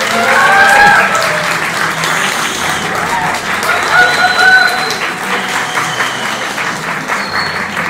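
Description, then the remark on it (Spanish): Steady audience applause, a dense wash of many hands clapping for several seconds at an even level, with a few short whistle-like or cheering tones rising above the clapping. “y les pido un aplauso para Miguel Méndez, el historiador del podcast.”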